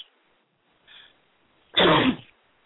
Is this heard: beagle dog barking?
no